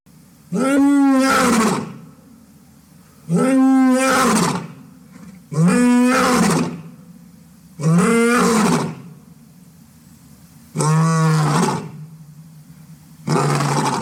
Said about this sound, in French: Avez-vous deviné à quel animal appartenait ce cri ? Il s'agissait du cri du roi des animaux, le lion.